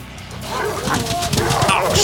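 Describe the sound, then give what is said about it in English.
Attacking mutant dogs, among them a pointer, bark and yelp in a frantic, overlapping burst, with whimpering cries mixed in, all over a steady background din and a voice talking. “The foremost of the dogs was on Corbin now.”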